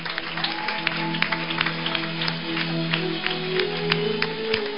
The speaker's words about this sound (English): I want you to clap for Jesus, everybody. Clap for Jesus. This guy is not clapping.